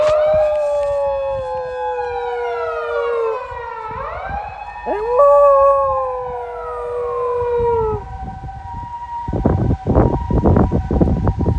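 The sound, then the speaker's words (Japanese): A wailing ambulance siren sweeps up and down in long glides, fairly loud and passing by, outdoors in wind-blown sleety snow, then fades toward the end as bursts of wind rumble and buffet the microphone. “今日は救急車多いね。”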